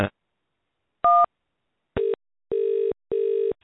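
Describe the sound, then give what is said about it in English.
A single short two-tone keypad beep sounds as 5 is pressed on a phone, followed after a pause by three steady electronic call-connecting tones, each slightly longer, as the call is put through to a debt team, on a quiet phone line. “If you are £10,000 or more in debt and would like to know how you can legally write off 70%, then just press 5 on your phone.”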